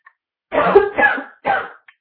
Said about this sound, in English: Oh, I'm coughing.